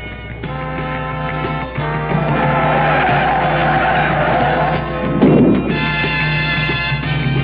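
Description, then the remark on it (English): Steve Krisiloff's race car skids at Indianapolis on May 14th, 1972, sliding a total of 500 feet with a loud, sustained tire screech over a roaring engine, lasting several seconds with a brief rough surge near the end, intense, with no talking. “He slid a total of 500 feet. There was minor damage to the car, the driver okay.”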